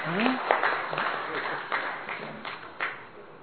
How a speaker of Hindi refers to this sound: शाबाश, खड़े हो जाओ, जरा खड़े हो जाओ, खड़े हो जाओ, शाबाश, खड़े हो जाओ, खड़े हो जाओ, इनके लिए ताली बजाएंगे।